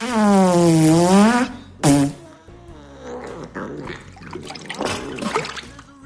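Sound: cat making noises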